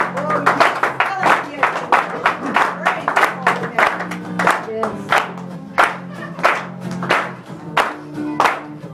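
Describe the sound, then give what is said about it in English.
An audience claps their hands together in a steady, rhythmic beat, loud, with a sustained low musical hum running underneath the clapping. “clap for him.”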